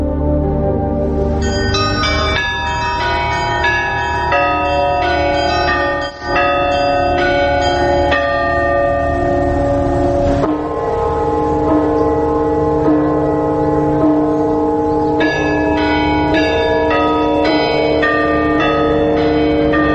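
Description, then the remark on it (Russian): Several Orthodox church bells ring together in a dense, continuous peal, their overlapping tones loud, with brief pauses in the pattern but no let-up for the full twenty seconds. No one speaks. “ангелы католические разговаривают как органы, а ангелы православные звучат колоколами.”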